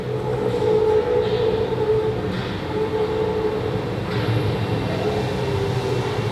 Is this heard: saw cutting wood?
no